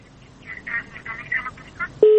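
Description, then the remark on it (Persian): A listener's telephone call connecting to a radio call-in programme: muffled talk gives way to a single short, loud, steady electronic tone, like a phone line beep, sounding briefly at the very end. “یک تماسگام داریم، بشنیم که کی هستن.”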